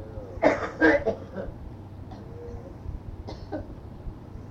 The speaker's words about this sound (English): Your dad? He's coughing scares her.